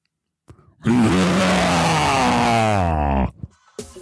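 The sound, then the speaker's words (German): A person imitates a white tiger's growl with a loud, rough, sustained roar of about two and a half seconds, low and gravelly with a wavering pitch, followed by a brief breathy sound. “Und jetzt zum Abschluss noch ein Raubzebra, also ein weißer Tiger.”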